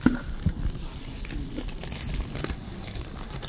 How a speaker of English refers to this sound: I give you Altoids. It comes in a tin box. It makes noise. It is flimsy. I open it and the paper rattles.